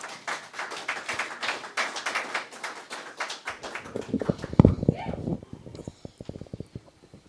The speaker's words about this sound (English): I would like us to celebrate the woman of God even as she comes to give the word. If you want to just, by celebrating, you can clap, you can scream, you can do.